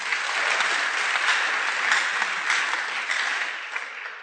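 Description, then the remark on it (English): An audience claps steadily for several seconds, a dense, even wash of many hands with no single claps standing out, holding fairly loud and fading slightly toward the end. “Clap for them.”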